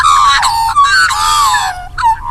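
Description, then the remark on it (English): Australian magpies, widespread native birds, carol together in a loud chorus of rich, warbling calls, the overlapping voices gliding up and down with brief breaks between bursts. “September is the magpie moon, one of our most recognisable and widespread native birds, and are a wonder to listen to when two or more start to sing together.”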